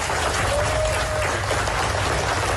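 Applause from dozens of journalists of the opposition newspaper Apple Daily in Hong Kong, after the last article of its final issue was sent to print: a dense, steady patter of many hands clapping at once, loud and continuous throughout with no speech over it.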